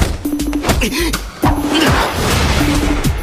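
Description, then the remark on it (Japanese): Sharp punch impacts from a boxing match land in quick succession: a fast one-two, then a heavier uppercut slipping under a hook. Whooshing swings and a steady humming tone run underneath. “フックをかいくぐったアッパー。大妻戦で見せたコンビネーションか。”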